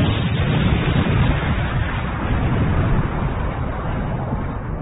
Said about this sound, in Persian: به آرامی یک نارنجک از توی بغچه‌اش در آورد. حلقه زامن را کشید و نارنجک را داخل لوله تانک هل داد. سری بغچه‌اش را برداشت و فرار کرد. هنوز به سر کوچه نرسیده بود که صدای انفجار مهیبی بلند شد.